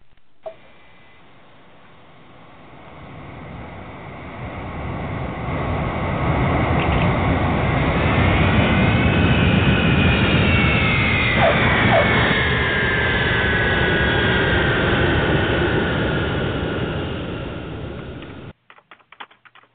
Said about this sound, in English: Okay, well, let's see if we can get this airplane on the ground.